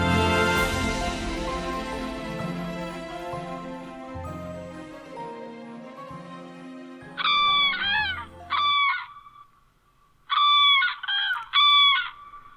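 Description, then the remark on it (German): Music plays for several seconds, then stops, followed by loud trumpeting calls of common cranes in four or five bursts, some overlapping as if from more than one bird. “Kraniche. Eigentlich könnte ich auch eine ganze Podcast-Folge nur damit bestreiten, dass ich dir diese Rufe vorspiele, oder?”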